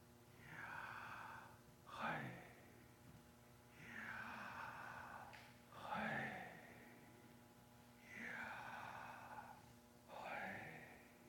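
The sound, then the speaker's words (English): Slow, audible breathing: three unhurried cycles of a long airy inhale followed by a shorter, breathy exhale, evenly paced about four seconds apart, with no talking. “In fact, it could be said just by breathing in and out.”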